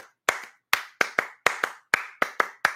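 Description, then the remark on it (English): A single person claps hands in a steady rhythm, about eleven sharp claps, some paired in quick doubles, with no talking. “You clap differently when you do different shit. So that's a normal clap.”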